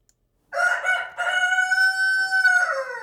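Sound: rooster crowing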